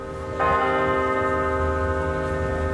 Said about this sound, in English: As the bells chimed at the University of California, Los Angeles, hundreds of students filled the protest encampment in support of Palestine.